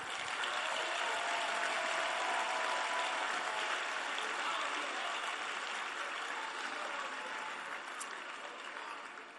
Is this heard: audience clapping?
yes